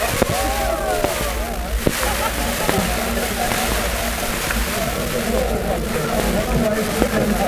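At the Cafe Royal, a head waiter uncorks champagne with a quick sharp pop, then fizzing liquid splashes and pours into a cup, beneath a steady murmur of a crowd.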